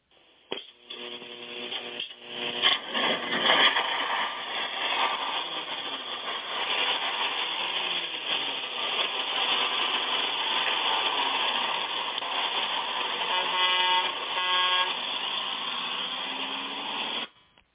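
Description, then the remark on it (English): An old bus engine idles with a steady, rumbling drone that fills the whole stretch as the bus pulls out of a station at night, with a couple of brief horn honks breaking through near the end. No one speaks. “who do we got with us on the old gospel bus as we pull out of the station tonight?”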